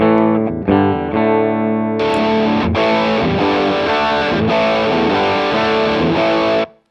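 An electric guitar plays a few ringing clean chords, then kicks into loud, buzzing distorted strums through a Tube Screamer-style overdrive pedal pushed to maximum gain, demonstrating its tone setting, sustained for several seconds before cutting off abruptly. No voices.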